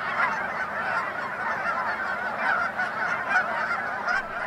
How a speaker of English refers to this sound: But when you hear the noisy, distinctive honking of a V-shaped flock of Canada geese as they migrate above you, there is no denying that autumn has arrived.